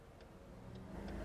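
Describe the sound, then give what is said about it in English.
A Porsche's turn signal flasher ticks at a steady, even pace, three faint clicks over a low rumble of engine and road noise inside the car. “So right now, the noisiest thing in the car, other than us, is the signal flasher.”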